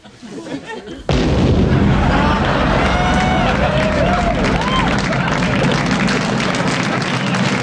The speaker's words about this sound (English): I hardly miss the house at all. It was a nice explosion, wasn't it? But on the good side, the ensuing fire did dry out my living room. But the sun would have done that anyway, since I no longer have a roof.